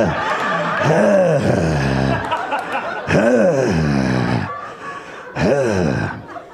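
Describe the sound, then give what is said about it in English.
A voice imitates heavy, exaggerated breathing in three drawn-out, voiced bursts, each rising and falling with groaning, gasping tones. Fairly loud, with no other sounds. “I'll sit here quietly breathing.”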